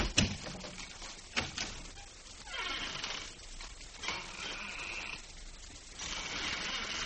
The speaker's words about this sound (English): Let me show you. I'll step outside the office and close the door and then open it again.